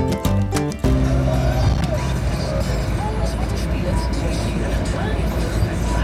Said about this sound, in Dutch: De radio maar even uit. Dan kan ik vertellen dat ik in een auto zit, maar dat hier niet meer yet. En ik ben onderwijs naar Boetenpost.